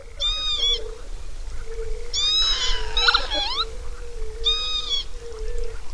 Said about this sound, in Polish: Słyszymy tutaj no, wszystkie takie trzy charakterystyczne gatunki siewkowców, które w parku możemy spotkać. Słyszymy taki melancholijny troszkę głos krwawodzioba. Słyszymy zawodzenie czajki, no i beczenie bekasa krzyka.